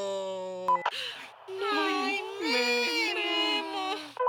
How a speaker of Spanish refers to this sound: Jovencito, por favor, deja de llorar.